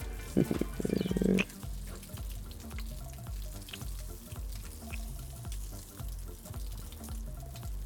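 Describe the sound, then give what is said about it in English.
A coffee maker sputters and gurgles as it finishes brewing, with a loud hissing burst near the start followed by steady bubbling, rhythmic gurgles, with no voices. “The coffee maker just finished.”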